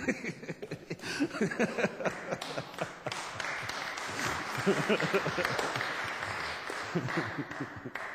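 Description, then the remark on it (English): An audience applauds steadily for several seconds, a dense, fairly loud patter of many hands with no clear rhythm, with faint voices mixed in beneath the clapping. “You know when you're clapping and it's wonderful?”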